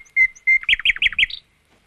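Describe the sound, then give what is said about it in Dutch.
A nightingale, a small plain grey bird perched on a high branch of a tamarind tree, sings a short, bright phrase: two clear whistled notes followed by a quick run of rhythmic chirps, ending on a higher trill. Fairly loud, with no other sounds. “Het is een heel eenvoudige vogel, maar zingen dat hij kan. Oh, stil, daar begint hij weer.”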